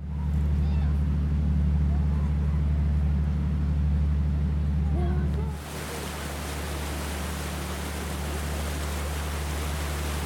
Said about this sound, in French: Saurez-vous reconnaître tous ces sons qui composent la vie à bord ? Sur le pont supérieur où l'on peut observer la vie du fleuve et de la rivière.